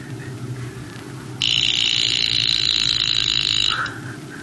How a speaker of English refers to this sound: Someone has just lent me this. Alarm watch to remind me to go to Kirtan.